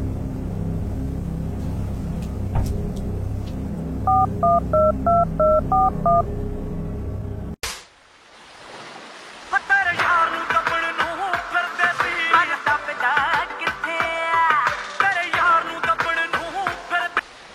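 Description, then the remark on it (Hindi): A rapid run of about eight touch-tone dialing beeps over a low background rumble, then a sharp click and a bright, melodic phone ringtone that keeps playing loudly to the end. “स्वा जीजू, वो तो फोन ही चकदा पिया मेरा।”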